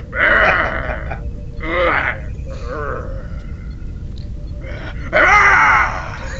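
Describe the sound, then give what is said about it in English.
A series of deep, guttural Hulk growls from The Incredible Hulk, made by the human voice of Charles Napier, coming in several loud bursts with wavering pitch, separated by quieter rumbling stretches, and ending on a strong final roar. “he took over the growls after Ted Cassidy died on The Incredible Hulk.”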